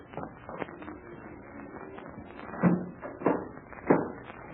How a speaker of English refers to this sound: Captain Blaze, you will close and lock that door as it was before. Be quick.